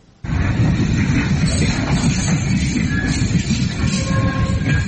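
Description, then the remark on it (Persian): A loud, steady rumble of Turkey's first freight train to Xi'an, China, arriving on Saturday after a 12-day journey from Istanbul through Georgia, Azerbaijan, the Caspian Sea and Kazakhstan, rolling along the rails; it starts abruptly and continues throughout, with dense low-end roar and faint metallic squeals and tones riding on top. “ورود اولین قطار باری ترکیه به شهر شیان چین در روز شنبه.”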